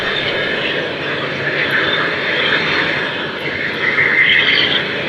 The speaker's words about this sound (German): Was klingt wie ein Flugzeugmotor, sind die Abgasfackeln, mit denen überschüssiges Gas verbrannt wird.